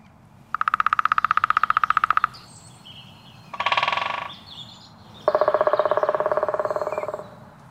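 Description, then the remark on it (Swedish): Two long bursts of rapid, evenly spaced woodpecker drumming ring out clearly in a forest as daylight returns, with a short, harsh woodpecker call between them over a quiet outdoor background. “Hörni, nu när ljuset är tillbaka, då vaknar skogarnas slagverkare.”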